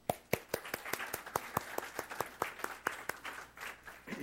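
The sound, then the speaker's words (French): An audience breaks into applause for those who teach Christian education to the youth, with sharp, steady hand claps standing out above a dense, reverberant wash of clapping from many people. “Est-ce qu'on peut les applaudir?”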